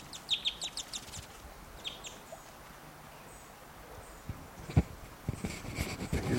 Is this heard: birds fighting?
yes